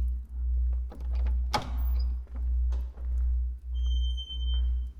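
household object, door opening

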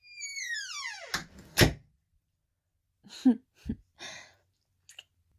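household object, door being closed

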